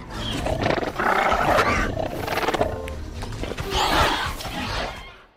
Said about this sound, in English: ultimately, what we ended up using were mostly penguins, Gentoo penguins. They do this sort of chuttering and these softer, cuter sounds that we were able to manipulate and make the raptors more friendly.